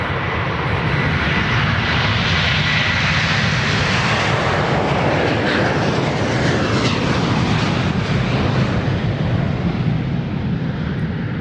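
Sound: airplane engine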